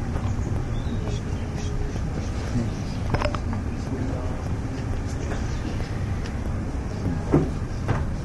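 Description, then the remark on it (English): A chair is brought in, shifted and set down with a few dull knocks and scrapes, against a steady rumbling background with faint voices. “There's another chair coming.”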